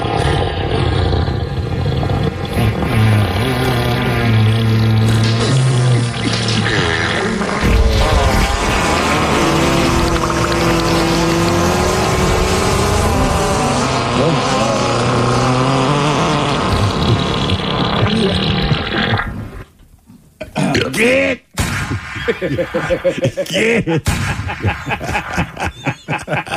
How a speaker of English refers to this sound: It's art right there. That is how many different animal farts do we have